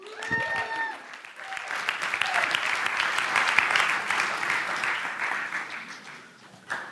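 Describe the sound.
A crowd breaks into sustained applause with scattered cheers, a dense steady wash of clapping that holds for several seconds before tapering off. A brief voice sounds at the very start.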